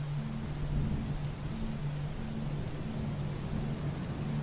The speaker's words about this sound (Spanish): Y empieza a llover un poco más.